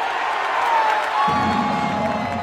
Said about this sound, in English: The acceleration of a Grand Prix car, and the crowd at the Detroit Tigers' opening day of the baseball season.